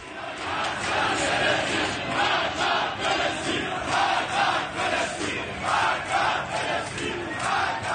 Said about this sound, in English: Crowds in Iran were chanting yesterday, and what they are actually chanting is death to Palestine. Not a joke. Not death to Israel. Death to Palestine. Listen to this.